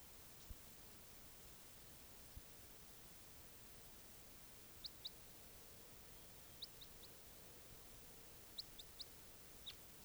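Brief, high-pitched chirps from two birds being tested come in small clusters of two or three, scattered across a steady background hiss. Nobody speaks.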